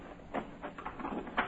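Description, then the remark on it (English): Cargo doors being opened to let out a load of beavers: a short run of quiet mechanical clunks and scraping slides, a few uneven knocks over a second or so, with no voices. “I'll prod them out as soon as you open the doors.”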